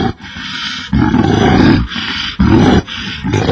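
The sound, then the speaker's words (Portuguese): A bear named Ben roars loudly in several rough, rumbling bursts, each broken by a brief pause, with no voices in between. “Muito obrigado, seu urso cretino.”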